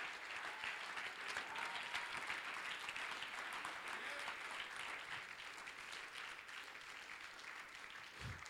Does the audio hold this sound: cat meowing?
no